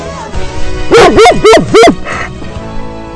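A dog lets out four loud barks in rapid succession, then falls quiet while faint background noise lingers.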